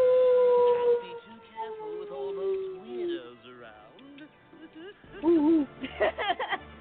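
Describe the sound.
A person lets out a long, sustained howl that slowly glides downward in pitch, imitating a wolf, followed by loud laughter and excited voices.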